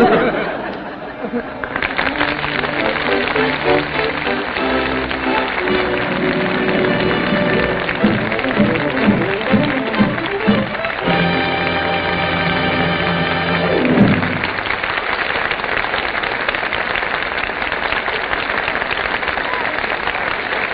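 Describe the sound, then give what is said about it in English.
Sustained, enthusiastic applause from the Gulf Stream Guild Theater studio audience for Bing Crosby, Bob Hope and Betty Grable, a dense crackle of clapping, runs throughout as an orchestra plays a swelling theme over it; the music ends partway and the clapping carries on alone. “I'm sure all of us agree that Bing Crosby, Bob Hope, and Betty Grable well deserve that enthusiastic applause from our Gulf Stream Guild Theater audience.”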